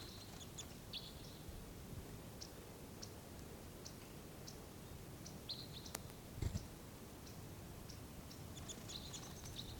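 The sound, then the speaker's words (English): Four crossbills calling as a pair comes in: a scattered series of short, high, sharp chip notes repeating irregularly, fairly faint over a steady low rumbling background, with no one talking. “There's four crossbills altogether.”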